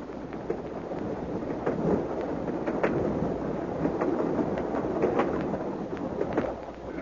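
A steady, continuous rumble of an express train to London in motion, with occasional sharp rattles and clicks over the roar and no voices.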